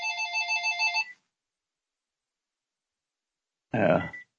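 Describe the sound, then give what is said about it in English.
A phone rings with a rapid warbling electronic trill for about a second, then cuts off into silence before a short voice sound near the end. “Let me hit this phone.”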